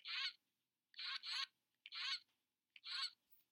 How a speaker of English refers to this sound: And that's why my cute little stuffed goose that squawks shows up in every episode, honking their encouragement.